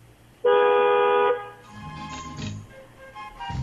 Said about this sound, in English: You know, when we drive to lunch and stuff, one of the guys on the show likes to honk his horn at shit. Honk that horn again.